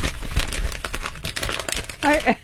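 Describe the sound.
Continuous crinkling and crumpling of a piece of paper being played with, a busy stream of sharp crackles and rustles, with a voice briefly speaking near the end.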